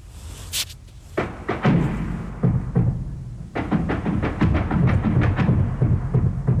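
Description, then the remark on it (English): Explosions of war rumble and thud in an irregular barrage at about 6 o'clock in the morning, heavy booms overlapping with sharper cracks over a constant low roar, with no voices. “you'll be hearing the sounds of war, including gunshots and explosions”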